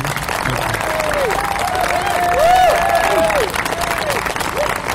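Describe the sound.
A steady round of applause from a crowd, dense clapping that swells toward the middle and carries on for several seconds, with some cheering or whooping voices riding over it.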